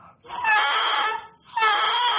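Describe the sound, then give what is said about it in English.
A bare double reed, removed from a bagpipe chanter and blown on its own, crowing (the sound called the crow) in two loud, raspy squawks with a short break between them as the reed vibrates, opening and closing. It sounds almost like a rooster, and no one speaks. “And this reed, when I blow into it, it crows. This is what's called the crow.”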